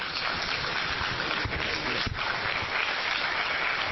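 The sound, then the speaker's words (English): An audience at a public hearing where people testify on bills claps steadily for about four seconds, a dense, even wash of many hands with no voices over it and no clear rise or fade. “Please remember that every time we applaud, we lose someone's chance to speak.”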